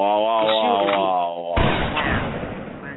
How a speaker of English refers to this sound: Yo, now you got gunshots for people.